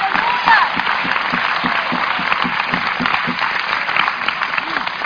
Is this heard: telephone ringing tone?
no